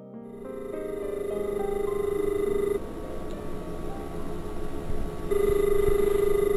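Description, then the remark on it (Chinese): A telephone rings in two steady electronic bursts separated by a short pause, clear and fairly loud, with no voices. “我后天打电话给你吧。”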